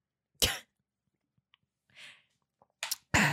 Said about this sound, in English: Let me just take a sip of water so you're not hearing clickety-clackety in my mouth.